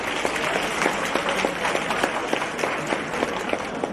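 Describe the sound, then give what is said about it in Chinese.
A crowd applauding Lu Junhong steadily for about four seconds, a dense wash of many hands clapping with sharper individual claps popping out of the texture, fairly loud and sustained with no talking. “让我们再次用最热烈的掌声感恩大慈大悲的卢军宏台长。”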